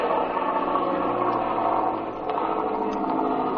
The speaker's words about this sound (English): Say, Speed, look. One of those men has climbed back in the cabin. Look, they've started the engine. The propeller's turning over.